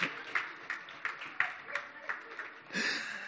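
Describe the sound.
A crowd claps hands together in a steady, rhythmic beat of about three claps per second, with a murmur of voices underneath that swells into louder cheering near the end.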